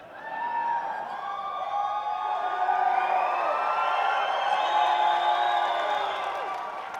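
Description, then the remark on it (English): An audience at a live show yells and shrieks together in a sustained burst of mock screaming after a CD is mentioned, many overlapping high-pitched voices rising and falling for several seconds before tapering off. “So what actually happens there, you see, the first ones that sort of yell out a little bit, they are the ones that have actually bought it.”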